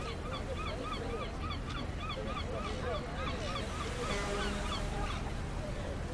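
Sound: seagulls calling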